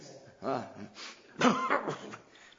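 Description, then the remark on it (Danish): A few voiced coughs mixed with throat clearing come in short bursts, the loudest near the middle, with brief pauses between them and no clear talk. “Sagde du selv og hoste.”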